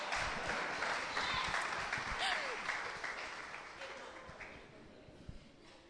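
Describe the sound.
A crowd applauds steadily for several seconds for someone who ran a 14 km route the whole way, a dense wash of clapping that slowly fades, with a few brief voices and a cheer rising over it.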